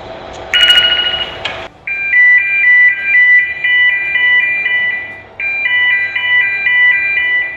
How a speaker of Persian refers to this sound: بله، آلارمایی هم که میشنیم مربوط به انجین هستش یا همون موتور کشتی.